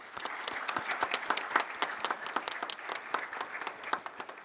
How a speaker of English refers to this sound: So round of applause to our panelists, please.